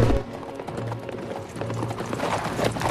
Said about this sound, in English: More police travel in horse-drawn carriages to Heisenheim's home in the country.